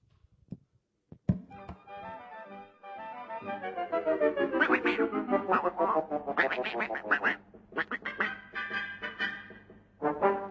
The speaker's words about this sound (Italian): noi ci andiamo ad ascoltare appunto … con …